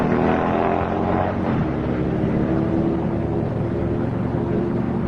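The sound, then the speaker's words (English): A motorcycle engine roars loudly, its droning pitch dropping partway through as it goes past, then continuing as a steady rumble. No one speaks. “That motorcycle is one of mine right now. I'll let it pass.”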